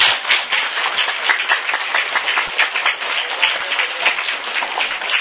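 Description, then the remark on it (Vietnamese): A crowd breaks into steady applause for a young man from Maryland, dense overlapping claps at a fairly loud, even level for several seconds with no voices heard. “Dân Maryland cho cậu tràng pháo tay.”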